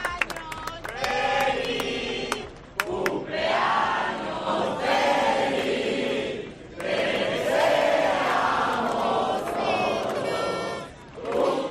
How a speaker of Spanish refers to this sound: Lo han recibido como se merece, con aplausos, emoción y subnando de fondo ese cumpleaños feliz.